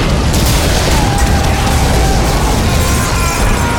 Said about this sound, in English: The boiler of the engine suddenly exploded.